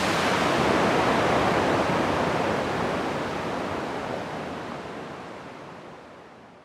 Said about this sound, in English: I'm just gonna soak it in. Let's fade out to some nice roar of the waterfall.